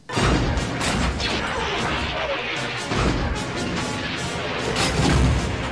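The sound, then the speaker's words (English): A continuous barrage of loud, close explosions and booming blasts around an evading starship in a space battle, with repeated bursts and crashes layered over a dense rumbling roar, with no voices. “Fresh explosions continued to flare close by despite Chewbacca's best efforts at evasion.”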